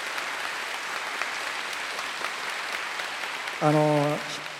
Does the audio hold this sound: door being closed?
no